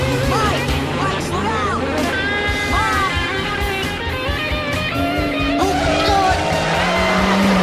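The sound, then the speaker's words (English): A car that has turned onto its side after the driver lost control skids along the road with loud, continuous screeching and sliding squeals over a heavy rumble, with indistinct voices mixed in beneath the noise. “Michael Jr. loses control and the car turns onto its side, still skidding along the road.”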